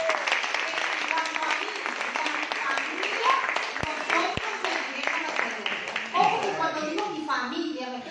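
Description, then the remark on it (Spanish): An audience breaks into sustained applause for a scripture word about serving the Lord, many hands clapping densely and steadily throughout, with scattered voices and a few sharper claps audible within the crowd noise. “Damos un aplauso a esta palabra.”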